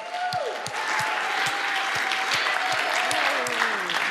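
An audience claps steadily as a woman comes onto the stage, a dense wash of hand claps at an even loudness, with a few rhythmic low thumps and a faint tonal line running underneath.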